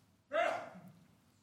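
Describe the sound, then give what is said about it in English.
A single sneeze bursts out abruptly, a sharp breathy blast that trails off quickly into quiet, with no talking around it. “Bless you. Bless you.”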